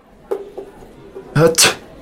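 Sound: sneeze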